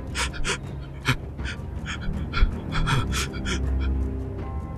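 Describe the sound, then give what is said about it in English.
Rapid, shallow, panicked breathing in quick frantic bursts, roughly three per second, fairly soft over a low background rumble, with no talking. “That's what you hear, is this very light, frantic breathing.”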